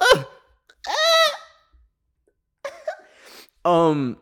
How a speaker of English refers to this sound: And like, oh my God, I have hiccups that are kicking my ass right now. I'm so sorry.